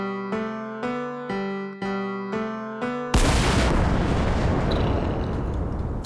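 Six short, evenly spaced musical chords ring out, then one loud cannon boom bursts in and rolls on as a long, rumbling roar until the end.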